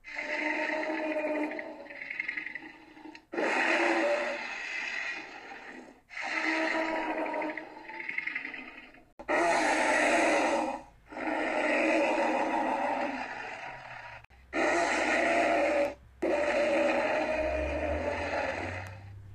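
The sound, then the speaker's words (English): A monstrous creature roar from the game Jurassic World Evolution, blending alligator, lion and elephant sounds, bellows in a string of loud, harsh, layered bursts separated by short pauses, alone with no talking. “In Jurassic World Evolution, it is voiced by many animals. I'm not sure exactly which ones, but I definitely hear alligator, lion, and elephant.”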